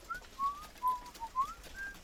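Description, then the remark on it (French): Soft, gentle whistling in a series of short, smooth tonal notes that glide slightly up and down, moderately quiet and alone with no talking. “Alors qu'elle plonge son seau dans le puits de la cour, elle entend un doux sifflement.”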